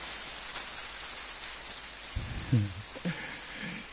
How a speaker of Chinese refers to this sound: 笑完之后鼓鼓掌啊！